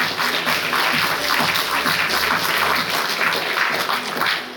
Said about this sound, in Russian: Давайте, дорогие друзья, еще раз бурные аплодисменты продолжаем наши гости.